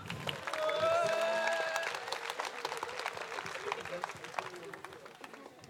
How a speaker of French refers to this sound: Une galaxie d'applaudissements, s'il vous plaît